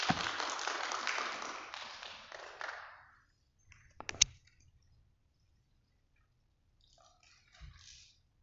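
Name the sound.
audience applause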